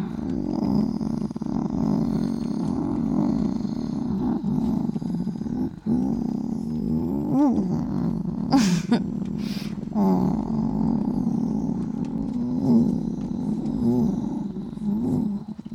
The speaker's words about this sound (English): You can't blame kitties for purring.